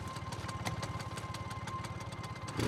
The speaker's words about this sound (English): At night, the courtyard outside the workshop sits in almost total darkness. A light appears as a scooter drives through the entryway.